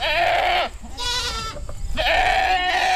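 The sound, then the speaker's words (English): Goats bleat three times in quick succession, loud, each call a wavering, nasal cry with short pauses between. No one speaks. “And another strategy would be to have the goats come in and have them come back twice, and like I said, then a third time with them, or clear cut.”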